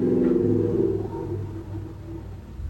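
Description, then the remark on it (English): A truck rumbles past with a deep, steady engine drone and low harmonic tones that gradually fade, then a fresh rumble rises at the end. No one speaks. “Sorry, I just wanted that truck to pass.”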